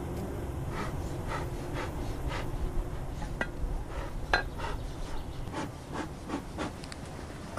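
A dense, steady drone of many honeybees (Apis mellifera) buzzing at an open hive, with sharp intermittent clicks and scrapes of frames or tools cutting through the hum as a beekeeper works the hive, which the bees have sealed with propolis.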